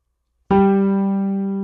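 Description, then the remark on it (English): A single sustained musical pitch starts abruptly after a short silence and holds steady, a clear harmonic reference note for matching by humming, slowly fading in loudness with no voices. “Listen to the pitch, think about singing in your head, and then hum.”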